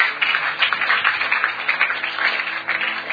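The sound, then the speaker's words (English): An audience claps their hands for God in a dense, steady burst of applause that holds at an even, fairly loud level for about three seconds, with no voices standing out. “Come on, let's give God a big hand clap.”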